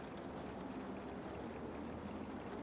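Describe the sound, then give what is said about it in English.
Water streams and drips steadily from the soaked clothing of a person who has just come home soaking wet, a continuous patter and splash with no pauses and no voices. “You're dripping everywhere.”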